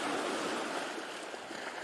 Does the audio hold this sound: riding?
no